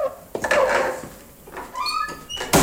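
An old door creaks on its hinges, giving a series of drawn-out squeaky groans and whines, ending with a sharp bump as it stops.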